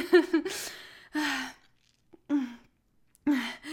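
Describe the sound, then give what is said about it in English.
Heavy, breathy panting: a quick cluster of voiced gasps, then several loud exhales spaced about a second apart with short silences between, no words spoken. “You're breathing pretty heavy there.”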